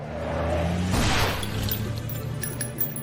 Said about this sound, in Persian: حالا برای چراغ راهنما. پس این برف پاکنشه. اشکالی نداره، به روش قدیم راهنما میزنم.